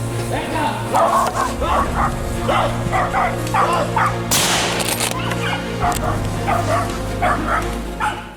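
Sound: hunting dogs barking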